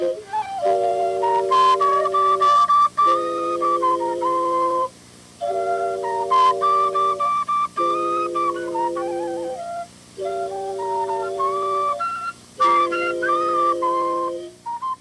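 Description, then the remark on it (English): A musician, an albino man with a long white beard standing in water, plays a wooden flute he pulls out of the water: a slow melody of long, breathy, sustained notes in phrases of a few seconds, each separated by a brief pause. Fairly loud and steady, with no voices. “And then it looks like he pulls this wooden flute out of the water like Guinevere's sword.”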